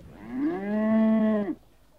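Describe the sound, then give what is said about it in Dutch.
A single long, steady cow moo with rich harmonics lasting about a second and a half before cutting off, followed by quiet. “Kom, koe, laat me er eens even bij.”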